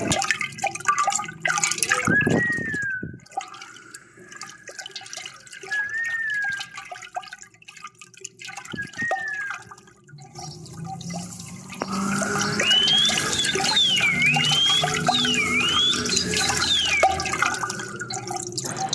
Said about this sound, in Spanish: Usamos una olla con agua mientras que la agitábamos.